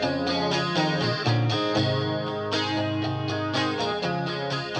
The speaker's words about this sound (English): It has this bizarre reverb on it. But what we would do is put it through a chorus pedal.